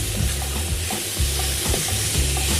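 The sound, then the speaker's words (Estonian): Food for a quick one-pot-style dish sizzles steadily in a frying pan, a loud constant hiss broken by repeated low scraping and clattering bursts as it is stirred. No one speaks. “Aga kui me teeme täna sellist nagu nii-öelda pajarooga kiiret panni peal, siis ma varsti panen siia soola ja pipart, see on okei.”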